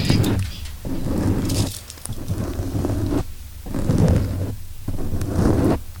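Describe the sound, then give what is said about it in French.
A wax candle rubbed directly against a microphone makes loud, rumbling scrapes in several uneven strokes with brief pauses between them. No one speaks. “Alors là, j'ai frotté la bougie sur le micro.”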